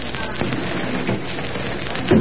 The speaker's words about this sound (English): Now, don't you hear anything? What do you think you hear? A plane. There's a plane out there flying low.